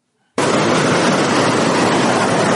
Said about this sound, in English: From a distance, one could hear the roar of white water at Fula Falls, falling down the base of the Nile and crashing on the rocks below, sending foamy splashes of water up as high as 5 feet.